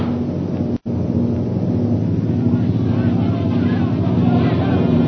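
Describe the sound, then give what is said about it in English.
Loud, continuous droning of airplanes flying low overhead, one plane heading straight toward the listeners, a steady rumbling engine roar that fills the whole stretch, broken only by a split-second dropout near the start and swelling slightly toward the end. “Most High Superior, here comes one plane right at us.”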